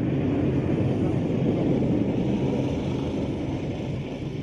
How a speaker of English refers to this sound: And just as quickly, they rush back to the shores, and the boats are still revving their engines there. They all pile back into these boats, and upriver they go, roaring away.